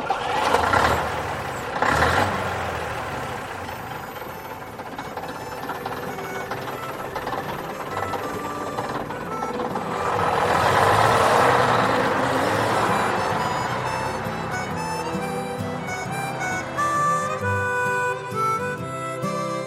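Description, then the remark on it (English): A vintage bus engine drones steadily while the bus drives, a continuous rumbling roar that swells louder midway, with rattles and faint whining tones over it and no voices. “It's quite nice just listening to the engine and not thinking about anything.”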